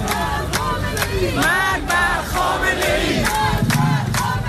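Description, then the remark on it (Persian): A large crowd at a protest in Iran over fuel price rises shouts anti-government slogans in unison, loud and rhythmic, with repeated chanted phrases rising and falling over a constant roar, punctuated by sharp bursts of noise every second or so. “شعارها از اعتراض به گرانی ضد حکومتی شدند.”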